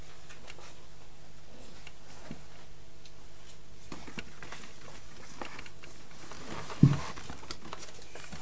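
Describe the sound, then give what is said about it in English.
A clock ticks quietly and steadily against a low background hum, with no one speaking; a single louder knock sounds near the end. “It's a funny place for a clock to be, isn't it?”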